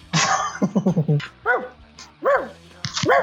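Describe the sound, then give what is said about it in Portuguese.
A dog gives a quick burst of short yaps, then three separate sharp, high barks spaced out over a few seconds, fairly loud. “Deixa o cachorro falar aí um recado.”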